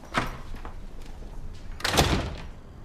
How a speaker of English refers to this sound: He heads straight for his room and shuts the door.